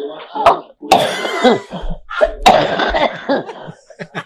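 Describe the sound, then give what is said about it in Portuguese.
A woman with the flu coughs repeatedly in harsh, raspy fits, several bursts close together over a few seconds, in a played-back voice message, sounding slightly compressed as if through a phone speaker. “Nós tivemos a tosse, vai.”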